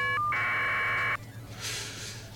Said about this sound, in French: Alors, le caller ID, c'est une trame FSK qui ressemble à ceci.